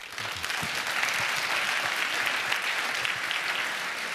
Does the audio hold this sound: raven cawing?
no